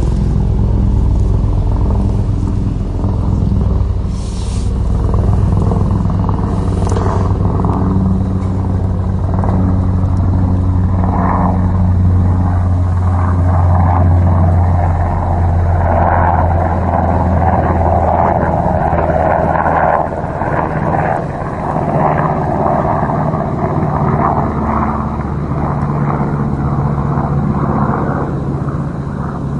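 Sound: airplane flying overhead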